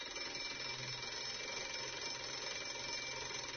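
An alarm rings in a preschool without pause, a dense, buzzy metallic clatter that holds steady and loud for the whole stretch, with no voices over it.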